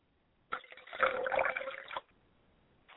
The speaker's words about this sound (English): So we pour a libation for Oluduamare, and we say Ashe. I'm going to pour a libation for my mother's spirit, Clara, representing Yamanja. I say Ashe.